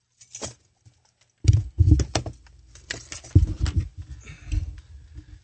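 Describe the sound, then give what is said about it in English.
Busy rattling and clinking of keys being jangled and shuffled as someone looks for car keys, with a couple of short jingles first and then a steady burst of metallic handling that fades out. “As soon as I get my keys, these aren't mine, I'm leaving.”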